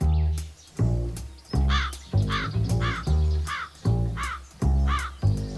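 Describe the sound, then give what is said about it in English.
A crow caws repeatedly and loudly, about six harsh calls in a steady rhythm, with no talking. “One hot and sunny day, a crow lazily flapped through the air.”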